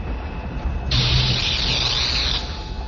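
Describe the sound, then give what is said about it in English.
A fizzle of sparks from the front end of the Darksaber superweapon as it fails to fire: a bright, sputtering hiss bursts in for about a second and a half over a low steady hum, wavering slightly before it cuts out, with no voices. “A fizzle of sparks splattered out the front end of the Darksaber, but nothing more.”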